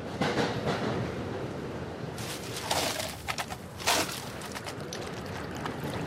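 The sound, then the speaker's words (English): Steady rumble of a moving Metro North commuter train bar car running between New York City and Stamford, Connecticut, with a few brighter clatters and clinks rising briefly over the constant noise partway through; no one speaks. “She tends bar on the Metro North line between New York City and Stamford, Connecticut.”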